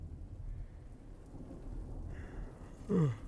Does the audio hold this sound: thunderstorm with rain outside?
yes